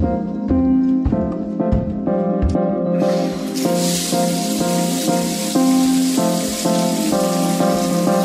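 A steady hiss of running shower water, as someone takes a shower, starts a few seconds in and continues, blending with rhythmic music that plays throughout.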